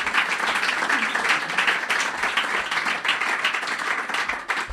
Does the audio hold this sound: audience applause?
yes